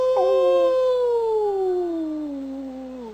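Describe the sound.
A person lets out a single long wolf-like howl, a sustained tone that slowly slides downward over about three seconds, loud with no other sounds.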